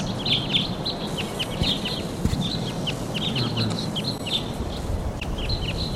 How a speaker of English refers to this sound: Those birds took off and some other birds are coming in.